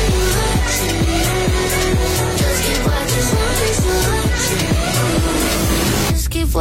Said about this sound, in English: And she is literally just about to release a song for that new F1 film. You know the one with Brad Pitt in it? It's coming out tomorrow. I've got a little clip for you.